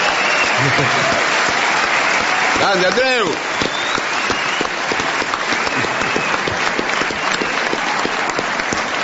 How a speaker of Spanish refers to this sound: Bueno, ¿usted sabe que está Andreu Buenafuente hoy aquí? ¡Qué grande! ¡Vamos a aplaudirlo!